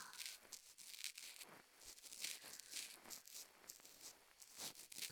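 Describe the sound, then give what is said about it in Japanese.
Crackly scraping and rustling of an ear pick working inside an ear, a steady stream of bright, gritty scratches with soft thumps, continuous and fairly quiet with no voices. “それから耳かきの音と”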